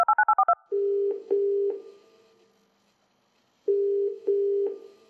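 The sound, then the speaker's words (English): A quick run of five touch-tone keypad beeps dialing a gay hotline number, followed by a steady ringback tone pulsing in two pairs of rings separated by silence, clear with no voices. “Yuo nervously dialed the number.”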